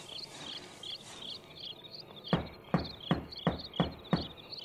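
household object, knocking on a door

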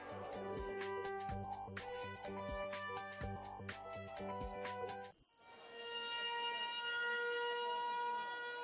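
signal or alarm, civil defense siren wailing

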